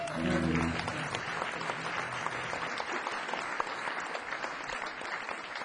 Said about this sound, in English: Please give them a round of applause for asking me back.